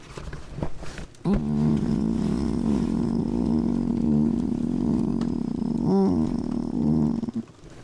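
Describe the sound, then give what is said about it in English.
A person lets out a long, deep, rumbling growl lasting several seconds, loud, with a gritty pulsing texture and a brief swell near the end before it stops. “I growl at you to show you love.”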